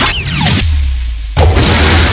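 Loud whoosh sound effects: a rushing swish with a falling sweep, a brief low rumbling lull, then another broad whooshing burst that carries to the end. No one speaks.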